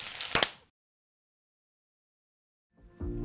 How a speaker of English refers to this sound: Should we hit it? Let's do it. We'll clap for the edit.